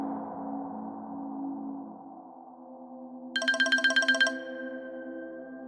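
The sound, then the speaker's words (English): A mobile phone rings with an incoming call from an unknown caller: a brief, loud burst of rapid electronic trilling beeps lasting about a second, set against a steady low droning hum, then a single tone lingers. “Jack found himself in shock when his phone had rung earlier that day, revealing an unknown caller”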